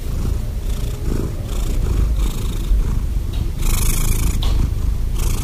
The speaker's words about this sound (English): So how and why do cats purr? Cats purr when they force air into their throats where their vocal cords are, and they cause the vocal cords to vibrate.